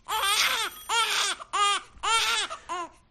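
A baby cries loudly in five wailing bursts, each rising and falling in pitch, with brief gasping pauses between them.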